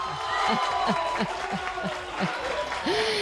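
An audience claps steadily for a few seconds, a dense wash of applause with a regular rhythmic pulse running underneath, moderately loud throughout.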